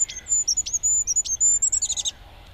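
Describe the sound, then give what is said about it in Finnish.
A goldcrest song, Europe's smallest bird, played back from a recording: a very high, thin song repeats in quick, rhythmic notes, ending in a brief fast trill. It is clear, with faint low background rumble and no talking. “Ja mä uskoisin, että ei mene kauaa, kun tässä on Euroopan pienin lintu tuossa oksalla. Pannaan vielä kerran.”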